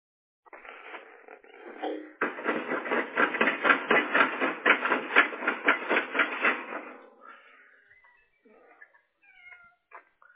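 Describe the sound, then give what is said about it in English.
A cat makes a loud, drawn-out yowling noise for several seconds, wavering in a rapid pulsing rhythm before trailing off into a few faint, scattered sounds. “Oh, you have a kitty cat? Yeah, you hear it?”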